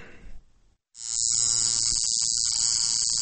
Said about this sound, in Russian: Звук тату-машинки в этом доме на окраине Тбилиси порой не стихает на протяжении целого дня.